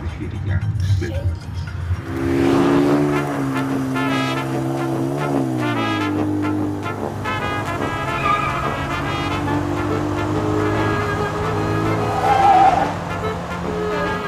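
A car chase in which a man pursues the thief of his car: loud engines roar and rev continuously, their pitch climbing and shifting as the vehicles accelerate, with a brief screeching surge near the end.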